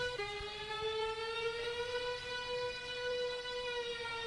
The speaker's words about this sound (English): You know what's scarier? The fucking alarm.